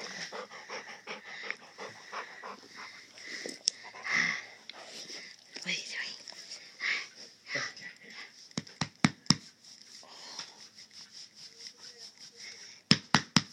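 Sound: dog panting heavily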